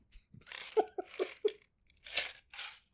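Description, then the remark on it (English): A series of loud crunching bites into a crunchy potato, several sharp crisp bursts in quick succession followed by two longer, broader crunches. “I do not like biting into a crunchy potato.”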